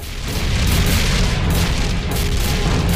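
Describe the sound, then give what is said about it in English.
Loud cannon fire booms repeatedly over a dense, continuous low rumble, with a few sharper blasts standing out amid the roar, as cannons fire shells at a shield. No one speaks. “The clones' cannons roar, but the shells are repelled and make no impact on the shield.”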